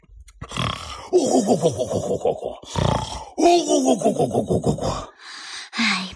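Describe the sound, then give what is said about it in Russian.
A man's voice imitates loud snoring, drawing out several rough, rumbling grunts and groans with gasping breaths in between, without any accompanying speech. “Тоже будешь храпеть, но иначе. Вот так.”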